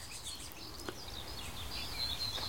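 tit scolding alarm calls

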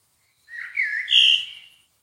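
bird call

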